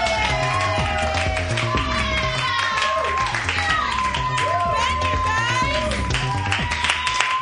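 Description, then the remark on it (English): An audience at a comedy show bursts into sustained, loud applause for the first comic of the evening, with steady clapping running throughout and scattered cheers and whoops rising over it for several seconds. “Give a big round of applause right now”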